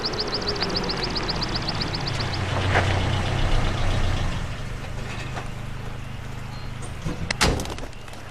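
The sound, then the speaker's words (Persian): An old, beat-up motorcycle engine idles and putters steadily with a rough, rattling sound. Its low drone runs throughout, with a rapid ticking clatter early on and a sharp knock near the end. “بازم که داری با این لکنتت برمیری.”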